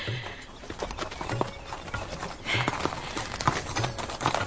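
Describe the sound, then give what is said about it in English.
Horse hooves clip-clop at an easy walking pace as a horse is ridden, a steady run of sharp knocks over a soft outdoor background, with no one speaking. “Hold the reins in short so that the horse's neck is arched.”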